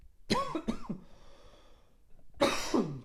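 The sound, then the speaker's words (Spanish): Harsh coughing from a person who choked after eating pizza for dinner: two quick hacking coughs, a brief pause with faint breathing, then another pair of forceful coughs, as if clearing something caught in the throat. “Perdonadme. ¡Ey! ¿Qué estoy tosiendo?”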